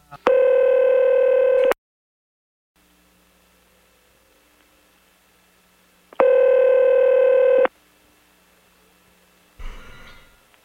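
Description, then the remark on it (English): A telephone dial tone sounds loudly twice as a phone is dialed, each steady buzzing tone lasting over a second with a long quiet pause between, followed by a brief burst of crackling static. No one speaks. “Then we're going to have to get him back on the phone again.”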